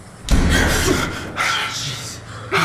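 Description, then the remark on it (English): A door slams with a sudden heavy bang, followed by a rumbling, rattling tail and a couple of further softer knocks as it settles. “Okay, it's just the door.”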